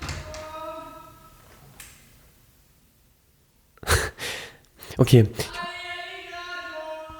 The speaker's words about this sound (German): ich weiß, ich mach mal hier kurz die Tür auf.